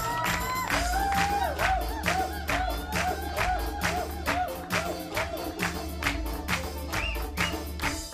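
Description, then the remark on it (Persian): An audience on the programme Ghand Asal claps in a steady rhythm for several seconds, the sharp regular beats mixed with whoops and cheering voices above a dense crowd murmur. “با یه تشویق نشون بدیم که برم.”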